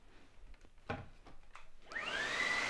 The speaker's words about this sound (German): Oh, jetzt kommt auch noch meine Mutter mit dem Staubsauger rein.